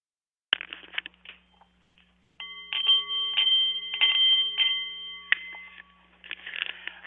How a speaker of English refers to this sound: The Nepalese Meditation Bowl is chiming, and that means it's Tuesday, 2 p.m., time for the Art of the CEO Radio Show